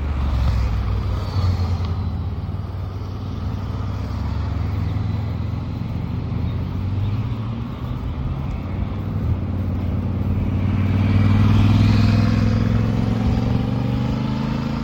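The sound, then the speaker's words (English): A group of motorbikes roars past on a mountain road: a steady, loud engine drone with whining revs that swell and fade as bikes go by, building to a louder pass near the end. “Completely obliterated by the occasional group of motorbikes. Here's another one.”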